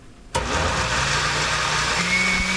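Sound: blender running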